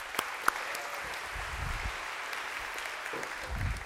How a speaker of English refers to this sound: So a big round of applause, if we could, for these guys.